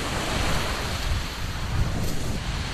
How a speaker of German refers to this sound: Am Karibikstrand. Die Sonne brennt, leichte Brise, das klare Wasser glitzert.